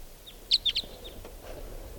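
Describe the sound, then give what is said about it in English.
A wild type 2 bird perched on the top of a tall larch tree calls in a quick run of three sharp, high-pitched chirps, with a few fainter chirps before and after over a low, steady background rumble. “Here it is. Here's the wild bird.”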